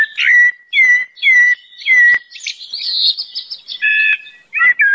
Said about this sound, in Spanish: En inglés lo llamamos el pájaro negro, que es muy feo. Es un pájaro con un canto tan bonito que merece otro nombre.